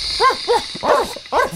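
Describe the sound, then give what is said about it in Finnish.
A human voice mimics a far-off dog, giving four short, muffled barks at uneven intervals over a steady faint hiss. “Tai nyt se kaukainen koira.”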